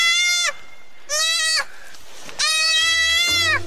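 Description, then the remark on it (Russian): A musk deer fawn calls for its mother with three loud, high, bleating cries, the last one longer and wavering, with short pauses between them and no voices. “А вот оленята очень милые и очень трогательные. Так малыш зовет маму.”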